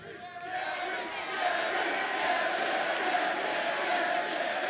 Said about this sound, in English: You're going to cheer every time Jerry fucks up?